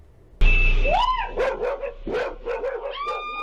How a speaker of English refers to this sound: Screams and barks rang out as more than a dozen dogs circled around her car Tuesday afternoon.